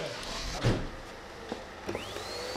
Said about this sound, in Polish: Odkurzacz pracuje, samochód też.